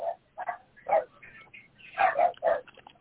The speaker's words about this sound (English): Nobody wanna hear them little sooner hounds eat, man. Got them little weenie dogs over there.